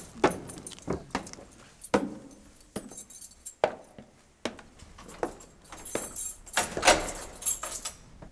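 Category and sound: household object, rattling a locked door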